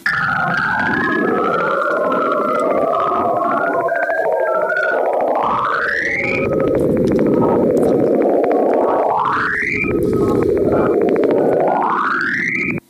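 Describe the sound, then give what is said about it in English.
Eerie radio emissions from Saturn, shifted down into the audible range by a factor of 260 and time-compressed. Rising whistling tones repeatedly sweep upward in pitch over a dense, rumbling hiss, with three major chirps in a row and fainter tones between. The chirps come from oscillations in electron plasma caught in Saturn's magnetic field. “Here's another example of these radio waves from Saturn.”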